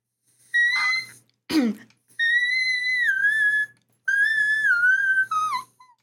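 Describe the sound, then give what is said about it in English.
A voice sings very high, thin whistle-register notes in two long sustained phrases that waver and slide downward, preceded by a short high note and a brief breathy throat sound. “there was definitely like some like high notes in some of your songs. Where I was like, that's a little like … Yes, I learned to whistle”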